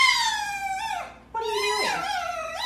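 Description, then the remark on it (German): A fox kept in an apartment whines into the camera in two drawn-out, high-pitched wavering cries with a short break between them, the second one dipping and rising again. The cries are loud and there is no talking. “Hier zum Beispiel faucht oder jammert ein Fuchs, der offenbar in der Wohnung gehalten wird, in die Kamera.”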